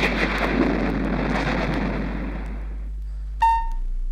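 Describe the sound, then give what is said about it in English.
A loud, rolling roar of thunder rumbles for nearly three seconds and slowly fades out, followed by a brief bright chime-like tone near the end. “Instead, out of their mouths came the roar of thunder.”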